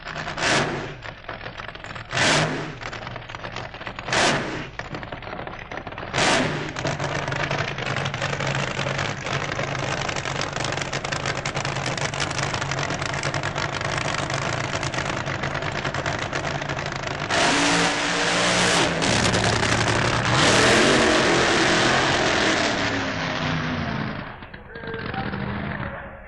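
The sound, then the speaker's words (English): Dennis Priddle's Keith Black-powered Monza drag racing car, sponsored by John Wolfe Racing, blips its engine in several sharp, loud revs, then erupts into a long, thundering roar as it accelerates, swelling even louder near the end before fading. “His car is another Keith Black-powered Monza, this time sponsored by John Wolfe Racing.”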